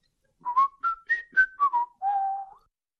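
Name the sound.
a person whistling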